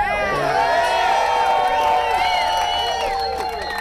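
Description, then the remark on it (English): A crowd carrying signs, gathered outside the Marsac building in Park City in the mid-afternoon sun on Wednesday, shouts and cheers continuously as a former mayor talks to them, with rising and falling calls layered over a steady roar of noise. “That's former Park City Mayor … talking to the crowd gathered outside the Marsac building in the mid-afternoon sun Wednesday.”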